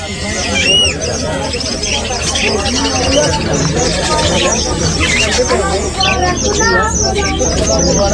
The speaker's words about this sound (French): Alors, il y a des oiseaux à voir. Des cages, des filets, des pigeons. Ah, c'est beau ça, regarde les cages.